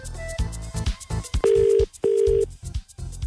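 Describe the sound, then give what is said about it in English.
An outgoing call's ringback tone on a phone call placed by a BRMB radio show sounds two steady, mid-pitched buzzy bursts with a short gap between them, loud and clear, surrounded by soft rhythmic thumps and background noise. “So phone number is in the system. It should start ringing.”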